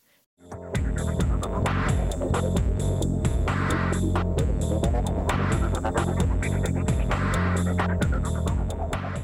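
A heavy, throbbing metal-style 1-flat-2 bass riff drives a dense band mix, a low repeating pattern stepping between two close notes over a steady beat, loud and continuous with no voices.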